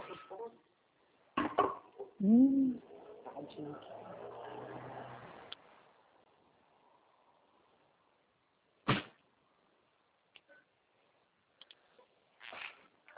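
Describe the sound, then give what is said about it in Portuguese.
A utensil pokes and scrapes around in cooking pots, with a few scattered metallic clanks and knocks separated by quiet stretches, plus a brief ringing scrape early on and some faint background murmur. “Tô cutucando na panela, não quero comer não, eu tô cutucando nas panelas.”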